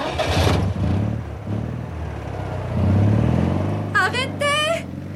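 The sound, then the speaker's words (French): A Visa car's engine turns over and catches, then revs in a low, throaty rumble that swells and pulls away as a man steals the car from the corner of the street, while a voice calls out loudly near the end. “Mais regardez, il y a un type qui vient de me piquer ma voiture! Laquelle? Mais celle-là, la Visa au coin de la rue!”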